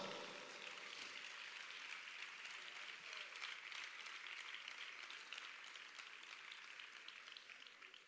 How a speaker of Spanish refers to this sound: también un fuerte aplauso para todos ellos y para el maestro Benito Velázquez, que todos los años hace un trabajo inconmensurable. ¡Fuerte aplauso!